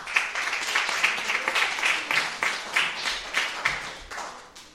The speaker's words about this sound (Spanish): Muchas gracias, un aplauso.